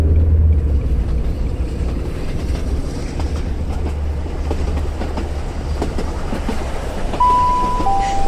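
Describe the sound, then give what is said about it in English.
A train rumbles steadily along the rails, a constant low roar with faint rattling, and near the end a brief tonal squeal or whistle rises over the noise. “This is due to your carriage being decoupled from the rest of the train by Matthew, who is now stomping back towards his toy box.”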